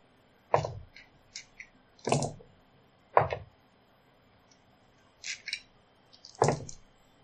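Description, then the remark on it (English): Dice are rolled several times for initiative in a game, each throw a sharp clattering knock followed by a few lighter ticking bounces, with short quiet pauses between throws and no voices. “I'm just going to roll my dice a couple times here.”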